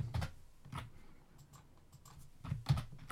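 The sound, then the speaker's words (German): Sharp computer keyboard clicks arrive in small clusters as Ctrl+Alt number shortcuts are pressed to assign controller setups, a few keys together, with short pauses between groups and a final quick double press near the end; quiet. “Für Setup Nummer 3 nehme ich STRG ALT 3 und wir machen noch die 4.”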